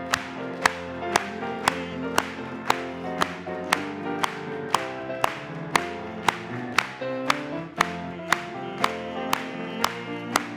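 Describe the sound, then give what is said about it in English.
An audience claps along to an upbeat song, sharp unison claps landing on a steady beat about twice per second over sustained music, with no singing or talk. “Clap it.”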